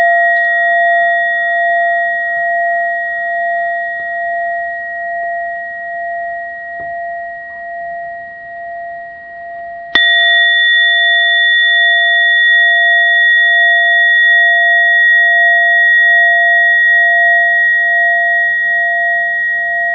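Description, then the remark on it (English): A meditation bell, rung to end a Dharma sharing session, rings with a steady, pure tone that hangs in the air, then is struck again clearly and resonates on, loud, with no talking. “I will invite Teresa the Bell to end the Dharma sharing today”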